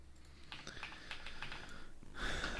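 Quick clicking keystrokes on a computer keyboard as a web search for the weather in Berlin is typed, a short burst of typing followed by a brief rustling, breathy noise at the end. No one speaks.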